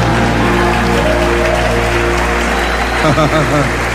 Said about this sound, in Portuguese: Se você crer, diga aleluia e aplauda o Senhor Jesus.